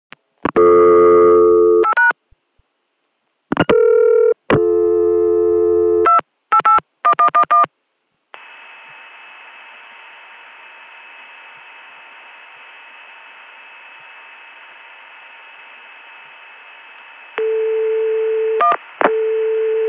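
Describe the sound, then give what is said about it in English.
A quick run of touch-tone dialing beeps gives way to a long, steady 288 PBX dial tone, followed by a few more dialed digits of a non-working extension at the end. No voices. “This time I'll do the same thing but end up dialing a non-working extension.”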